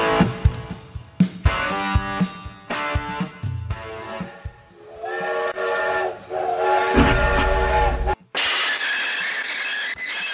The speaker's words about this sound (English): There it is again, still just about the sound of the Rowett train, just about still on the rails, joining me to consider the terminus that's looming in the distance now.